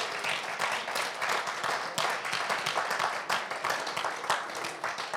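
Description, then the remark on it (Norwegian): A crowd applauds to congratulate someone who turned 40 the day before, dense overlapping claps forming a bright, crackling wash that holds at an even loudness for several seconds. “Kan vi gi en applaus?”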